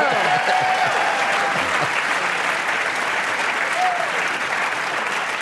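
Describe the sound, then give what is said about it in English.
Dense, steady applause from a crowd fills the whole stretch, loud and continuous, with a few faint voices and whistles briefly rising above the clapping. “That does sound better now that everybody's clapping for me.”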